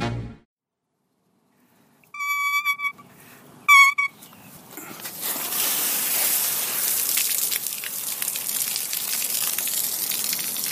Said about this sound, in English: You know what that is? Sound of water out of a faucet into a hose in the backyard and onto the tomatoes.